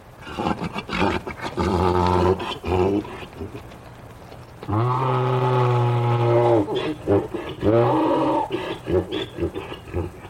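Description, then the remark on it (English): A mule brays loudly in a series of harsh, rasping calls, the longest held steady for about two seconds before breaking off into shorter, wavering honks, calling out to another mule that had been led out of sight. “And sure enough, just as his buddy disappeared out of sight again, our recording mule called out to him, we got our performance.”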